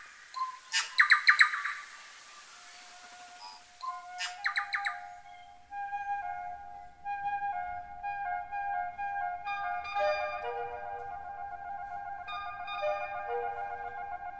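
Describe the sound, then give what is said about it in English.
Bright, rapid bird chirps burst out in two clusters near the start, followed by a long run of sustained, melodic whistling tones that continue steadily to the end, with no voices. “And again, one final time, here is that bird call.”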